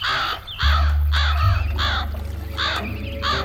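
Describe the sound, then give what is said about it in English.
Black-beaked crows circling over a river caw repeatedly, about six harsh, raspy calls in an uneven series, loud, over a steady low rumble in the background. “Just like yesterday, the birds are circling over the river, and the water below is carpeted in a brown sludge.”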